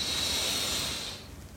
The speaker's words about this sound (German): Wir nehmen einen tiefen Atemzug, alle zusammen, und atmen ein.